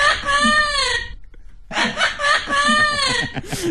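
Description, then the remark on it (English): A green parrot gives a laugh-like call in two loud bursts of rapid, harmonic, cackling notes separated by a short pause, ending with a brief harsh squawk. “Now let's listen to the green parrot making a similar noise.”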